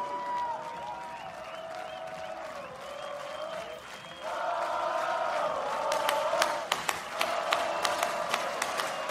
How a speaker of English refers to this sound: I would like you to clap along with me, if you would, please.